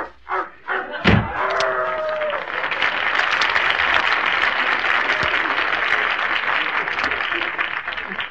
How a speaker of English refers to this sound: Sorry, folks. The sound man slammed the door on his tail.